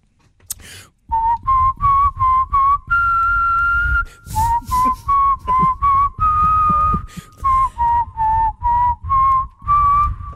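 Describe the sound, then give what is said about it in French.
Someone whistles a catchy advertising jingle for a quiz where listeners name the advert, a bouncy melody of short repeated notes with a couple of longer held tones, clear and loud with no talking. “Je vous siffle des publicités, vous me donnez le nom de la pub.”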